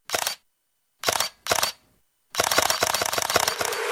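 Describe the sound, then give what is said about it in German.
Three separate shutter clicks from the Leica camera of a Xiaomi 17T Pro smartphone ring out crisply, followed by a rapid burst of continuous-shooting shutter clicks that rattles on to the end, loud with no voices. “Mit dieser Kamera willst du einfach alles festhalten.”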